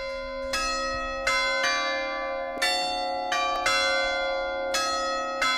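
Church bells ring out in a steady, overlapping peal, each loud strike followed by a long shimmering decay, with no voices present.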